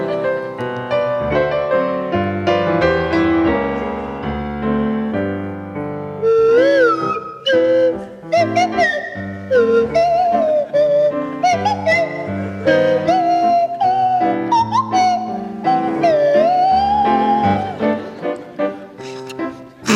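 A buzzy kazoo, played by Joe Brand, plays a steady tune, and partway through Tony Hawks joins on a swanee whistle with sliding, swooping notes. The two instruments carry the melody together, loud, with no talking.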